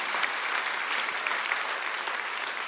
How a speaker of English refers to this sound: go ahead and clap if you want to. Someone wants to.